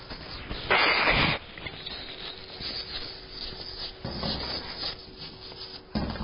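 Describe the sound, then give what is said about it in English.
A short, loud, breathy burst of nose blowing, followed by quieter rustling and rubbing, then two more softer blasts of air. No one speaks. “Give me just a moment to blow my nose here.”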